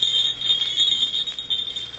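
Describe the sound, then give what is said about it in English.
A continuous high-pitched metallic ringing of jester's bells (fool's bells), like small bells being shaken nonstop, shimmering and wavering slightly in loudness for two seconds with no voices. “Bells, jester's bells.”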